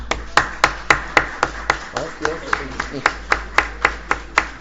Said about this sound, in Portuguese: A Câmara dos Vereadores de Uruguaiana hoje bate palmas a vocês, tá?